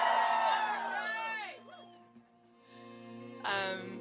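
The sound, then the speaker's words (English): A large live concert audience screams and cheers loudly when the performer asks for a louder scream, many high voices overlapping in a sustained roar that dips briefly, then surges back up near the end. “Can I get a louder scream than that?”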